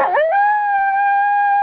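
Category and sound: animal, wolf howling sound effect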